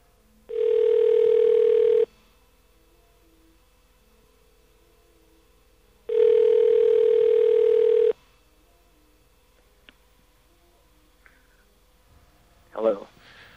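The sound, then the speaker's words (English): Two long ringback tones from an outgoing call to a Sprint phone, each about a second and a half, separated by a pause of several seconds, heard through a phone line; a faint voice answers at the end. “It took you heard two rings. I heard two rings.”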